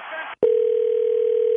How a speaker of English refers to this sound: Listen to that. Hello? She's just put me through now to an extension that's just ringing.